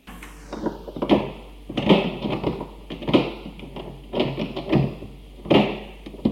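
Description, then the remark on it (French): A key grinds stiffly in a door lock, with repeated metallic clicks, scrapes and rattling jolts coming in uneven bursts over several seconds. No one speaks. “Je me disais, pourvu qu'il n'y ait personne, et tournait la clé difficilement dans la serrure.”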